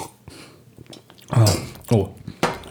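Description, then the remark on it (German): Glasses of mulled wine clink together in a toast, a few sharp bright taps, mixed with short bursts of voices and some clattering of tableware. “Prost, Simona. Gekochter Glühwein.”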